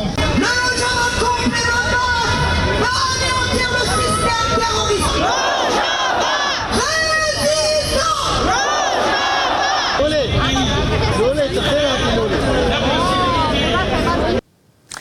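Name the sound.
protest demonstration crowd chanting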